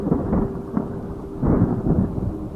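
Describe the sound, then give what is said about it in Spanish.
Low, heavy thunder from a storm forming over a sunny, cloudless place rolls and rumbles continuously, swelling louder in the middle and later, with deep booming bursts and no voices present. “En un inicio truenos leves, pero después estruendos fuertes y también relámpagos.”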